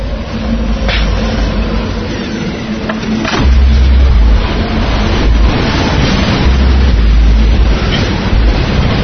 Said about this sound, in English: Pull the truck in the garage.